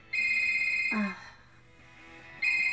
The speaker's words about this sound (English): Suddenly, the store's phone starts ringing.